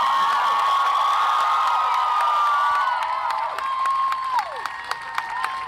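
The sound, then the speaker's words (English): A large crowd, including women, cheers and whoops loudly for a woman speaker in a sustained roar of blended voices, which eases after a few seconds into scattered clapping and fading shouts. “Now, one thing that bothers me probably more than anything about this is the way people are cheering her on.”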